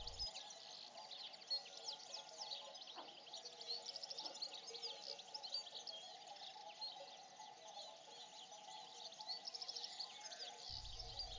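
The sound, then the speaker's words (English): Bells on approaching cows tinkle faintly, a steady irregular jangle of small metallic clinks that continues throughout against a soft outdoor background with no voices. “Their bells are tinkling.”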